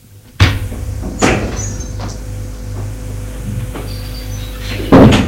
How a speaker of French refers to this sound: La porte s'est ouverte.